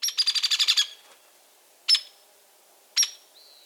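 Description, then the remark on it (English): Young hairy woodpecker begging calls as it hitches along behind its parent on a mossy branch: a rapid burst of about eight sharp, high chirps, then two single loud calls spaced about a second apart, clear with no other sounds. “A young hairy woodpecker, hitching along behind its parent on a mossy branch.”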